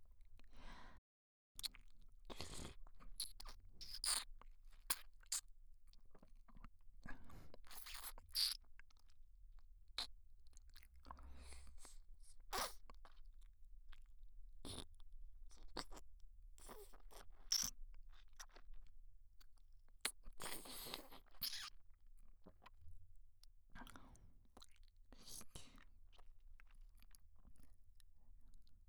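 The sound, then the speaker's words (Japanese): Wet, sticky ear-licking and smacking mouth sounds, heard with the other ear covered, repeat in irregular bursts, with occasional sharper slurps and clicks over a soft low rumble; no one speaks. “舐めてない方の耳を塞ぐと、さっきよりもエッチな水音が脳に響くでしょ。”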